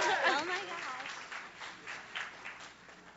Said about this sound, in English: So if y'all will give her a round of applause